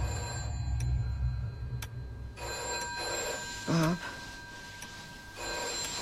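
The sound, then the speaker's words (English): A telephone bell rings steadily and insistently at 3:15, its metallic tone sustained through the whole stretch, with a brief spoken word cutting in partway through. “It's a phone.”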